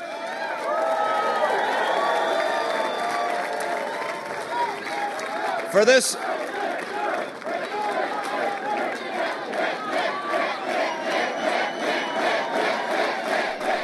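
A large crowd of Mitt Romney's supporters in Boston roars, then settles into a rhythmic chant of "Mitt," repeated over and over at a steady beat, with loud cheering throughout and a brief sharp burst midway.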